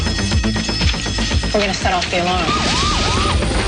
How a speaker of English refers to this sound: We're going to set off the alarm.